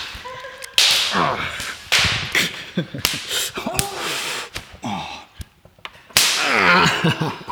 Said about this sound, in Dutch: Mag ik even meekijken als je nog een paar flinke lellen geeft? Ja. En opnieuw slaat zij mij met de microfoon voor mijn mic.